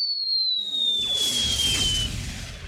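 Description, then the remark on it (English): A ship's captain fires a small cannon as a signal to a steamer near Shanghai Harbor. The blast rolls out into a rumbling roar while a thin, high whistle slowly falls in pitch above it. No voices. “The captain raised a signal flag and fired a little cannon.”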